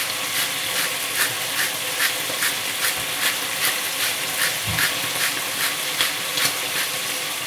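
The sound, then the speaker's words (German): About a quarter liter of water poured into a hot pan of browned beef roulades with onion, stove on full heat, sets off a steady, loud sizzle, a bright hiss that runs throughout with rapid crackling pops pulsing through it, with no voices. “Und ungefähr ein Viertel Liter Wasser.”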